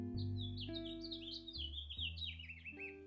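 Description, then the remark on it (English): Birds chirp continuously outdoors on a backyard patio with succulents and vines growing up the walls, a busy stream of quick, high tweets overlapping one another, with a low steady hum running underneath and no one talking. “There are birds and succulents and vines growing up the walls.”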